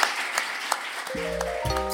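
An audience claps steadily in a dense, crackling patter for three panellists at the end of an evening panel talk; about a second in, sustained musical tones enter and ring out over the fading applause.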